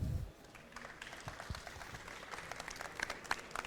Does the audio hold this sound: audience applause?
yes